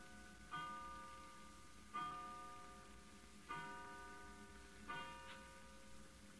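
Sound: clock striking twelve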